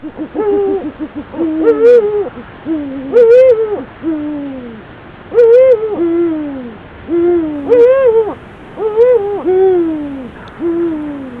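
A pair of Eurasian eagle-owls hoot back and forth in a steady exchange, deep hoots alternating with higher, more drawn-out calls, repeated about every second or two, clear with no talking.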